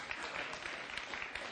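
A crowd claps steadily, a dense wash of many hands beating together at an even level for the whole stretch, with no voices standing out above it, applauding a volunteer who has just stepped down a series of steps with eyes closed.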